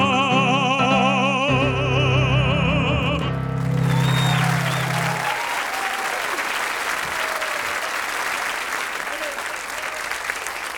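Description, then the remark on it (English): A song finishes on a held, wavering sung note with piano accompaniment, then loud, steady audience applause breaks out and continues as dense, rapid clapping to the end. “who deserves his own little round of applause, I think.”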